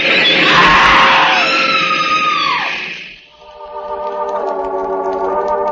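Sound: woman screaming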